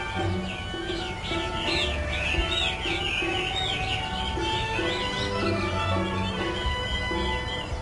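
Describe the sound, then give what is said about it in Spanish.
Many small caged birds chirp and twitter at once in a dense, continuous chorus at a bird market in Hong Kong, with a low hum and steady background noise underneath. “Realmente, en una ciudad tan densa, es más fácil colgar en un rincón la jaula con un pájaro que convivir con cualquier otro animal doméstico.”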